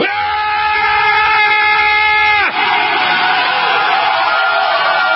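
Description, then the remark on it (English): A crowd lets out a loud, sustained war growl: a steady droning vocal tone for a couple of seconds that breaks into rough, noisy roaring and yelling, holding strong to the end. “Let me hear your war growl.”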